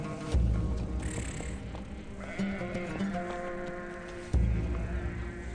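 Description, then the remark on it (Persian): Several sheep bleat as they are called home, their wavering cries overlapping in a steady chorus with a low rumble underneath and a sharper bleat near the end; no one speaks. “ای گوسفندان من، وقت آن است که به خانه بازگرد.”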